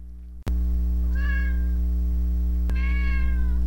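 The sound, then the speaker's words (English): A male domestic cat named Simba meows twice, each meow drawn out and a little plaintive, with a brief pause between them over a steady low background hum and a couple of sharp clicks. “Do you want to hear what it sounds like when he meows?”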